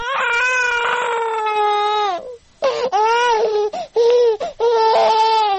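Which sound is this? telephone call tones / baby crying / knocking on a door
baby crying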